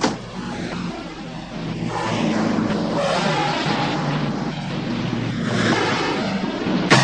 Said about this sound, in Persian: هوا خیلی بد است. چه بارون وحشتناکی میاد.